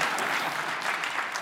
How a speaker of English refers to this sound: Oh, please applaud. Yes, absolutely.